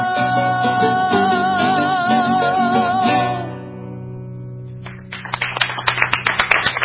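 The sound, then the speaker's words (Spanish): A sung melody with sustained instrumental notes fades out, and after a short lull an audience at La Rural breaks into a dense, loud ovation with rapid claps that build over the last couple of seconds, heard on Radio Nacional Folclórica. “¡Ah! Llega la ovación desde la rural. ¡Bravo!”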